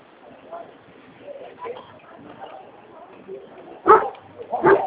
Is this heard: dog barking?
yes